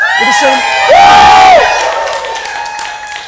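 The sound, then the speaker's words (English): A church audience erupts in loud cheering and whooping to celebrate people deciding to trust in Jesus or be baptised in water, with a sustained high whoop rising above the roar before the noise gradually settles over a few seconds. “And let me just, can we practice? Can we cheer for that?”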